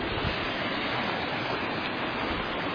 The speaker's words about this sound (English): The creek is coming up a little. The waters are getting a little muddy from all the melting from the snow.